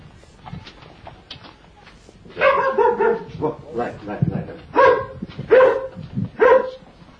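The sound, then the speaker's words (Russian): A dog greeting visitors barks repeatedly, a burst of loud, sharp barks in an irregular series after a quiet start, with some yelping tones mixed in. “Эта собака встречает всегда всех посетителей вот этим приветливым голосом.”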